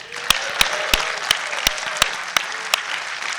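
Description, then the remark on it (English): An audience gives a round of applause, dense steady clapping with a few sharp, evenly spaced claps cutting through on a regular beat. No one speaks. “Hey, by a round of applause, who enjoyed the game yesterday?”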